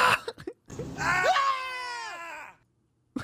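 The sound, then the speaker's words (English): A man in a played meme video lets out a loud, startled yell lasting nearly two seconds, strained and rising before trailing off, preceded by a few short vocal bursts and followed by silence. He gets scared, then tries to laugh it off. “I love how I just played the fucking yell.”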